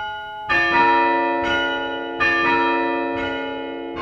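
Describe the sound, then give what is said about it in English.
The more than 100-year-old chime of St. Mark's Episcopal Church in Evanston, played by hand from a wooden chime stand with 9 wooden handles. The bells ring one after another in a slow, uneven sequence, each strike blooming into a long, resonant tone that overlaps the next, loud with no voices. “This is the chime at St. Mark's Episcopal Church in Evanston. It's more than 100 years old, and it's one of only two active chimes in the area.”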